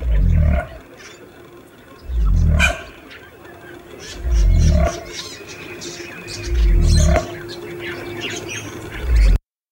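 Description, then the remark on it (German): Deep, booming low calls from a cassowary repeat about every two seconds, five heavy rumbles in a steady rhythm, with faint bird chatter in the background. “Der Kasuar hingegen klingt wirklich irgendwie Dino-mäßig.”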